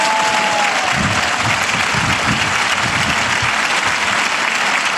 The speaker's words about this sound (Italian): Una benedizione particolare per tutte le donne presenti in piazza. Un applauso alle donne, si lo meritano.